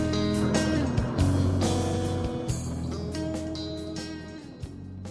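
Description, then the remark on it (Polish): Bus interior while driving in the evening: a steady, loud engine drone with a low rumble and shifting tonal whine, plus faint rattles and occasional thumps, continuous throughout with no talking. “W umówiony wieczór, jadąc autobusem, Zbyszek układał sobie w głowie wszystkie fakty”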